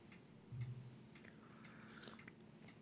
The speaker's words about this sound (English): Where we do have hot tea, I'm drinking a mug of hot tea. So if you heard any slurping right there, that's what that was.